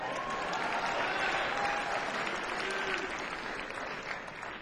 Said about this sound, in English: Okay, you can get a round of applause.